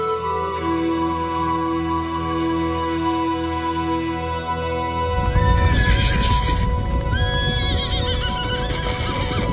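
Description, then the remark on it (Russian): A herd of feral chestnut horses among desert sands neighs and whinnies while galloping hooves rumble, the pounding growing louder and denser midway as several high whinnies ring out over the thundering herd. “Рыжие кони. Целый табун.”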